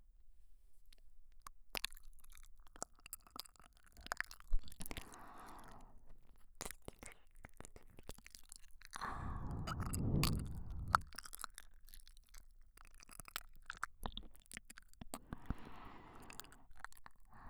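ear licking mouth sounds

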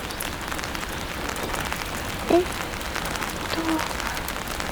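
rain falling

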